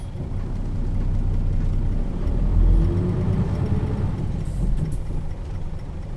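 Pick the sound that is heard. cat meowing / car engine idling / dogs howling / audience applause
car engine idling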